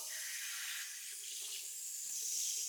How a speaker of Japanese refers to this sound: それじゃあまたシャワーしますよ。